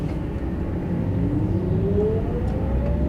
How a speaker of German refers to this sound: Also das Geräusch von dem E-LKW ähnelt eher so der Straßenbahn beim Anfahren. Könnte man noch gleich hören, wenn wir gleich wieder anfahren.